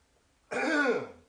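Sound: throat clearing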